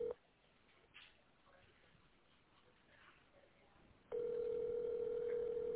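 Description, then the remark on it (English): A telephone dial tone as a call is placed to a service coordinator: a brief steady tone, then several seconds of quiet line hiss, then a loud, continuous hum that returns and holds to the end. “Let me try to call her one more time.”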